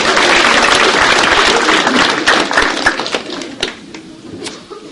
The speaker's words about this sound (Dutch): Geef hem even een applaus.